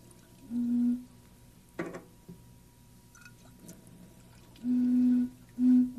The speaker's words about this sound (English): But I need this one to sound like let's put a little water in this one. Just a little bit should do it.